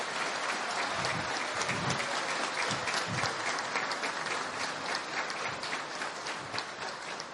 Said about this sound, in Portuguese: Levanta aí, minha mãe. Quero uma salva de palmas.